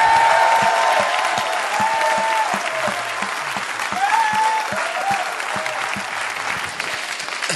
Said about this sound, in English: Let's give the Lord some applause now. Come on.